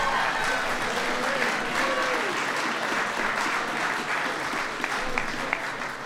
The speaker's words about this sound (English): Yeah, go ahead and give Tim a big round of applause.